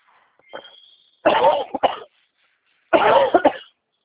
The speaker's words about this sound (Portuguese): Desculpa que eu tô tossindo pra caramba. Não imagina. Peguei uma gripe daquela braba.